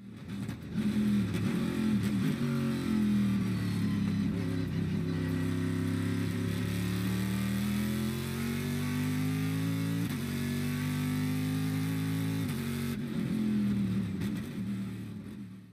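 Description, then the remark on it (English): A GM Gen 3 small block V8 engine, known as the LS, revs loudly, its deep droning pitch climbing and dipping across several sustained pulls, with no one speaking over it. “and probably the most important development with the C5, was it was the home of an engine that has, over the last 25 years or so, become one of the most raced engines of all time, which is the GM Gen 3 small block V8, which we all know as the LS.”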